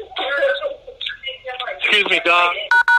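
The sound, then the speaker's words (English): Two quick, loud telephone keypad beeps sound back to back at the end, following a stretch of muffled voices and throat noises on a call line. “Can everyone mute your phone, please?”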